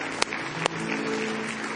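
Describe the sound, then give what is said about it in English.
A church audience claps steadily in sustained applause as praise to the Lord, a dense wash of many hands with a couple of sharper claps standing out near the start, without any talking over it. “Give Him one more hand clap of praise tonight.”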